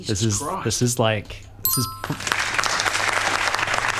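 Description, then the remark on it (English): A person talks briefly, then a bright bell-like ding rings out and gives way to a generic pre-recorded crowd applause sound-effect sting, dense clapping that holds at an even loudness through to the end. “I like this round of applause. Is this my signature sting?”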